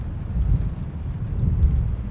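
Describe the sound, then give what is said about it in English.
A steady rainstorm with lightning above a lake and a deep, rolling thunder rumble that swells and fades, rain hissing continuously underneath; no voices, fairly loud and enveloping throughout. “Lightning above the lake.”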